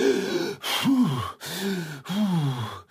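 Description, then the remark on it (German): A person breathes hard and groans in four strained bursts during a yoga stretch that is starting to hurt, each a breathy voiced moan that rises and falls, separated by short pauses. “Also langsam fängt's an, weh zu tun. Okay, atmen.”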